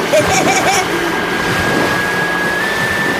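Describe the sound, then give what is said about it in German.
A motorboat engine roars at full throttle while towing a yellow banana boat on a long line, zigzagging through waves: a loud, steady drone with a high whine that climbs slightly, mixed with rushing wind and water; a brief voice calls out near the start. “Diesmal gab der Kapitän des Motorboots Vollgas.”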